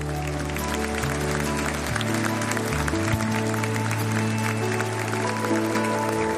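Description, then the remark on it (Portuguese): A church audience claps steadily in applause to the Lord after a prayer, a dense wash of applause layered over sustained keyboard chords that shift in pitch now and then. “Você pode aplaudir ao Senhor.”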